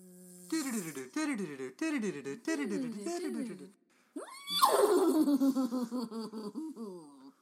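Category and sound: animal, horse neighing and whinnying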